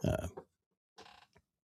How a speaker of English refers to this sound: This chair is really getting creaky. Like, I'm barely moving and things creaking around.